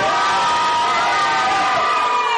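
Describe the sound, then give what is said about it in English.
An audience, asked to scream out good evening, cheers and yells loudly and steadily instead, with many voices overlapping in high-pitched whoops and shouts of "woo" that sustain without a break for a couple of seconds. “I heard a lot of woo!”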